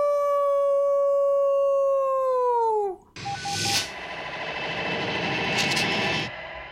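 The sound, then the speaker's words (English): Someone imitates a wolf howl: a loud, steady tone held for about three seconds that slides downward at the end, followed by a burst of noisy, rustling commotion. “my problem with the howling on Teen Wolf was always like in season three”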